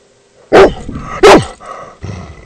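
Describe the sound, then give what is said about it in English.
A dog barks loudly, two sharp barks less than a second apart, followed by a softer, lower bark or growl. “I can't talk if you're barking.”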